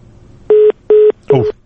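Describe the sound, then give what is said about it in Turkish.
A dropped mobile phone call: short, identical electronic beeps repeat at an even, quick pace, each one steady and clear, with a voice briefly talking over the third beep. “Kəsildi. Hər halda bizdə məlumat var idi ki, mobil telefonunun belə deyək, cərəyanı azdır, ona görə kəsilə bilərdi istənilən halda, eyb yox.”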